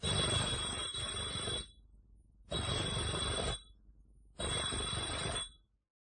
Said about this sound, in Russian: Идет по улице, заходит во двор. Звонит Кашиным 3 раза.